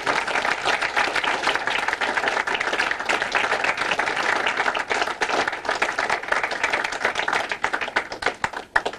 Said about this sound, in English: So let's give them a round of applause, okay?